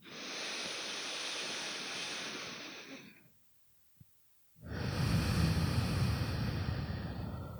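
Slow, deep breathing during a guided alternate-nostril breathing exercise: a long, airy breath for about three seconds, a brief pause with a faint click, then another long, rushing breath. No one speaks.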